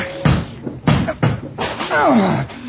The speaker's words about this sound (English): Look out. I'm going to break this door down. Oh, it's pretty solid.